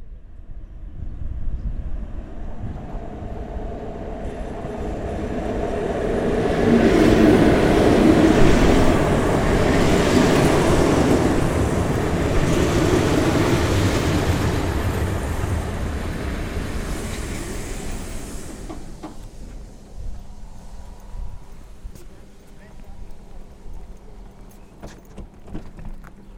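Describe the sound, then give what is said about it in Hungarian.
The 15:25 train pulls away with a broad, rumbling roar that swells to a peak and then gradually fades, leaving quieter background noise with no voices. “Elindult a vonat, egy trükköt csináltunk, mivel a GPS szerint 4 kilométerre volt az állomás, tehát kiléptünk, így elértük a 15-25-ös vonatot”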